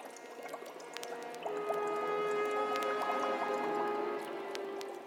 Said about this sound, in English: Come you closer and stand before my bubbling cauldron.